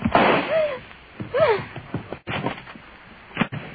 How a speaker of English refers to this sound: At the slam of the door, Miss Loring was gone, and so was the Hangley jade.